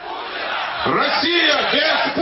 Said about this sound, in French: Une Russie sans Poutine, crient ces manifestants.